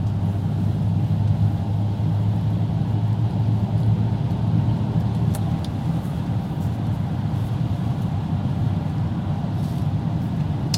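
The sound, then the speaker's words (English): A heavy truck engine rumbles loudly and steadily, a deep continuous drone with traffic-like hiss on top and no voices. “Come on, get that damn truck over there.”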